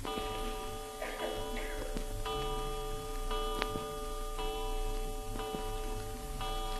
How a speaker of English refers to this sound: Seven times. Did you count the chimes?